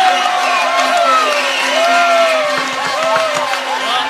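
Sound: audience applause and cheering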